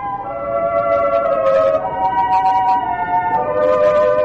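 A fire engine siren wails steadily at night on a town's Main Street, its tone sliding slowly down and back up in a long continuous sweep, loud and unbroken with faint background noise beneath.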